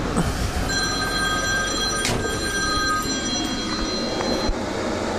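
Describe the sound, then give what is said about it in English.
A phone rings with a steady, high electronic tone that holds for about four seconds over the constant noisy rumble of a parked vehicle's running diesel engine, then cuts off. No one speaks. “Now my phone is ringing here.”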